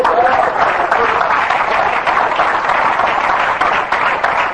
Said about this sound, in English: If you believe it, you can give the Lord a clap offering.